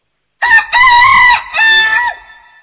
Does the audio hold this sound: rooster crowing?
yes